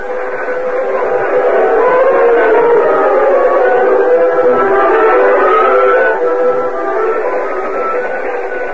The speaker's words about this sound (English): A few minutes later, Cliff and Gopher stood beside the moonlit tracks, watching the train disappear in the distance.